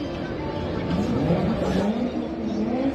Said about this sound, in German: Oh, ich krieg Fluchtreflexe. Der Motor klingt doch gut. Ja, der Motor.